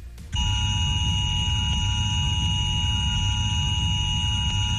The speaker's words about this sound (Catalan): Aquest dimecres es farà un simulacre de risc químic al Barcelonès, al Baix Llobregat i també als dos Vallesos. Es faran sonar 50 alarmes i s'enviaran missatges de mòbil a tots els que estiguin per aquesta zona.